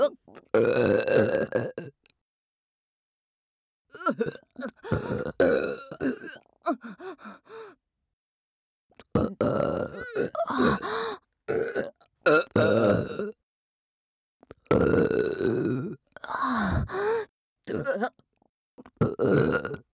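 A string of loud burps comes in throaty, croaking bursts, several in a row with short silent pauses between them, and no talking.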